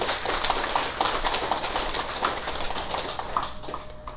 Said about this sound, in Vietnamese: Vậy thì xin quý vị vỗ cho một tràng pháo tay.